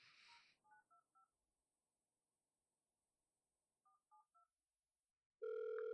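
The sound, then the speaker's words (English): A brief hiss, then telephone keypad tones beep in two quick sets of three separated by a pause as a man dials to make a phone call, followed by a loud, steady electronic tone that starts abruptly near the end. “Oh, just squeeze those pussy muscles on my cock whilst your man makes a phone call.”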